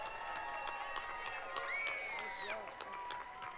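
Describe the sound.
An audience claps steadily while several voices whoop and cheer, with a rising shout swelling in the middle before the applause carries on at a fairly even level.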